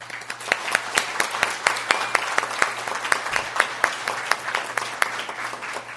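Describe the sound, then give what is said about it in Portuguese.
An audience applauds steadily, many hands clapping in a dense, crackling wash with a few sharper claps standing out, sustained at an even level throughout with no one speaking. The applause is for the municipality of Santa Maria de Jetibá, Brazil. “E, por isso, eu peço um vivo e uma salva de palmas a Santa Maria de Jetibá.”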